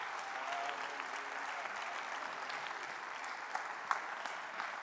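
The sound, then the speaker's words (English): A large audience applauds to welcome new members into the family of God, a dense wash of clapping that holds even throughout, with a few sharper individual claps standing out near the end. “And I want you to give every one of them a great big hand and tell them, welcome to the family of God.”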